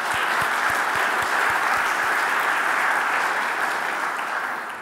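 An audience at a Mass breaks into sustained applause, dense overlapping clapping that stays steady and fairly loud for several seconds before easing slightly at the end.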